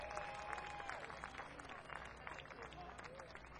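audience applause

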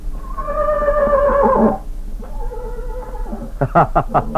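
horse neighing

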